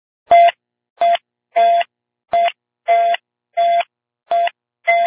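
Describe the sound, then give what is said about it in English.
Eight short electronic tone bursts on the Space to Ground 2 radio channel between the space station and Houston, heard during a panel checkout, evenly spaced about two-thirds of a second apart, each a loud steady buzzy beep with a faint click at the start, like telephone dialing tones. “Station Houston on 2, you may have heard those tones on Space to Ground 2.”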